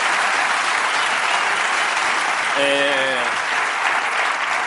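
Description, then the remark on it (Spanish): Steady, dense applause from a large audience fills the whole stretch, with a brief voice calling out over the clapping partway through. “Vale, joder, pues joder, un aplauso por la sinceridad.”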